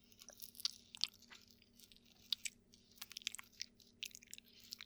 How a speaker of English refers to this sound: You feel my lips on you. My hot breath breathing against you. Licking and sucking.